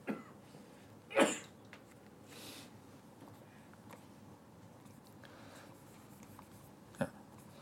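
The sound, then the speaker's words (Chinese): A pen scratches and scrapes against paper in short, uneven strokes as it writes with difficulty, with a few sharper scrapes standing out over a low, steady background hiss, during a lecture on Buddhist teaching. It's quiet, with no one talking. “哇，支笔得难咗。”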